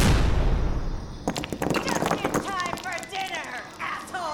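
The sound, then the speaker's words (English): A breaching charge goes off in a loud, deep blast that rumbles and fades, then a wall collapses inward, leaving a man-sized hole, in a rush of clattering, tumbling debris for several seconds. “The breaching charge made a whooping sound, and the wall collapsed inward, leaving a nice man-sized hole.”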